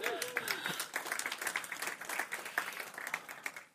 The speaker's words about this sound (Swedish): En applåd.